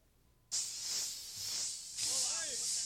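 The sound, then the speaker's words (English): An aerosol can of spray paint hisses abruptly to life as a 12-year-old sprays paint on a brick wall, a bright, steady high-pitched spray that dips slightly, then surges again into a second, stronger burst with faint wavering tones beneath it. “6 months ago, a 12-year-old spraying paint on a brick wall had his first brush with the law.”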